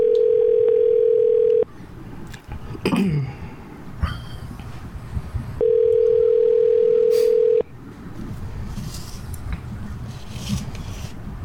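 A phone line rings out twice, each steady electronic ring lasting about two seconds with a long gap between, while faint rustling and handling noises fill the pauses.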